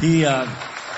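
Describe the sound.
A speaking voice trails off and gives way to a dense, steady wash of church audience applause, many hands clapping together at a moderate level, thanking a musician and singer who helped at rehearsals.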